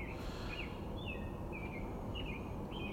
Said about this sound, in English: Now all the other birds seem to be waking up. I love it. You can kind of hear them way off in the distance.